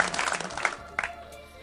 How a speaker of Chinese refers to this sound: 哎，这个掌声还不够热烈，你们是不是还没有这个没有从这个节目中啊醒过来？